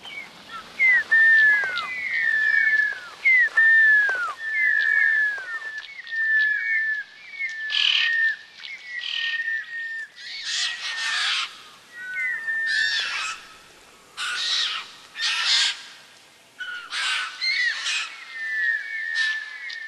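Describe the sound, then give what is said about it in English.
A person whistles a bird-like call used in place of a cooee, repeating short rising-falling chirps in a quick rhythm, interspersed with bursts of breathy rushing sound; clear, with no talking. “What do you do instead of the cooey again? What do you call it?”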